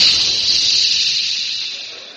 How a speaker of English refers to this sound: That jet of fresh, pure moisture stands for the new, different Moisturized Rolly 903.